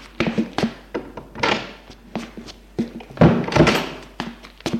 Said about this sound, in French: Vite ! Elle ouvre la porte de la chambre de Marianne et la referme.